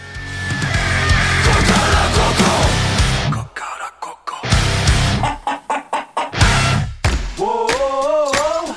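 A rooster crows loudly, its drawn-out wavering call rising at the end, after a run of sharp, rhythmic hen clucks over a busy, noisy barnyard din.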